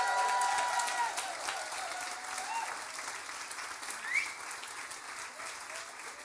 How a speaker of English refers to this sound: And first of all, we'd like some big cheers and lots of shout out and welcome